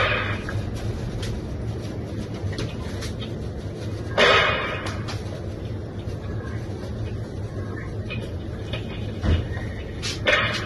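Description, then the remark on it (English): Gunshots in CCTV footage from outside the Three Horseshoes pub in Knockholt, Kent, on Valentine's Day night, where a woman was shot: one louder, abrupt bang followed later by two fainter sharp cracks, all over a constant low rumbling hum, with no voices. “Gunshots there can be heard in the footage.”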